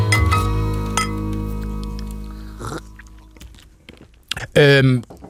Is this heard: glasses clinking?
yes